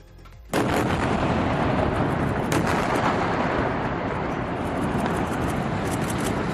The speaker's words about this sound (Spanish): Este es el momento de la explosión, del posterior derrumbe de ese edificio que había sido evacuado horas antes, había avisado el ejército israelí.